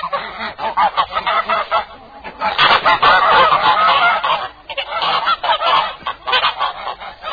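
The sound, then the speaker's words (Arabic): A flock of geese honks loudly and continuously, overlapping calls crowding together in a dense, nasal chorus with brief lulls before the clamor swells again. “أرجوك أطعميها وأسقيها، أو أطلقيها تأكل مما تأكل الطيور والإنسان، فإنها ليس لها لسان.”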